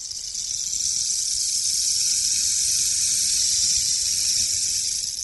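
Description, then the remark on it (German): A rainstick (rain maker), a stick with drilled holes filled with small stones and nailed shut, turned slowly in a display resembling a stone desert with cacti and palms, gives a steady, bright hiss of trickling pebbles that sounds like rainfall, holding even and fairly loud for about five seconds with no voices. “Also das ist ein Regenmacher. Man muss ihn langsam drehen. Also es hört sich dann wie Regen an.”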